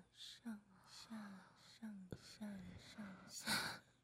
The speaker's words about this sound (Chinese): 听到姐姐的呼吸声了吗？